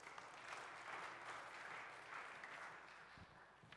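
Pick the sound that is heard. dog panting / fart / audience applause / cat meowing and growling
audience applause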